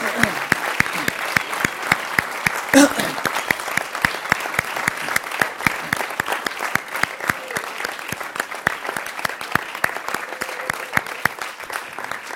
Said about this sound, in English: So let's do that together. Let's just clap for God and praise him for all the things that God's done.